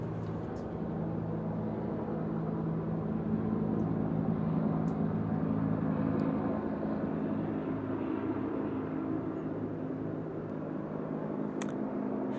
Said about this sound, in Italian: Sì, la situazione è un po' anomala perché eccolo lì, gli elicotteri qui non passano mai. Se cominciano a passare, qualcosa da controllare c'è, qualcosa da porre attenzione.